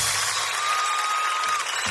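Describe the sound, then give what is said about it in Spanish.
Steady, dense applause from an audience, a continuous wash of many hands clapping at full volume throughout, with a faint sustained tone running underneath. “Aplaudir con las manos arriba hace que suene más fuerte.”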